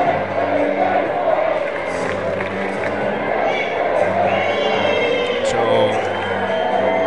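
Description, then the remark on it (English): A large baseball stadium crowd chants "let's play baseball" together during a game delay of over 10 minutes, a steady, loud roar of massed voices that stays constant for the whole stretch, with occasional whistles and higher shouts cutting through. “The crowd is chanting, let's play baseball.”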